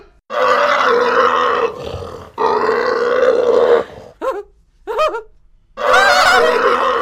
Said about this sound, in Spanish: ¿Qué es eso? ¡Napoleón! ¡Gallicor! ¡Pero qué pedazo de cerdo! ¡Es gigante!